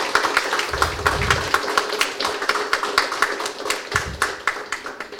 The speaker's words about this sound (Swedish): Ja, jag tycker vi ger barnen en stor applåd. Fint.